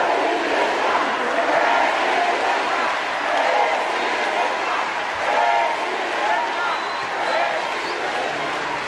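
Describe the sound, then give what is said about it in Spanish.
A large crowd at the close of a speech by Claudia Sheinbaum: a steady wash of voices with scattered, sparse clapping and faint shouts of "presidenta" rising here and there, never building into a strong cheer. “se despidió y a pesar de que se esperaba un gran cierre, apenas se oyeron aplausos y tenues gritos de presidenta.”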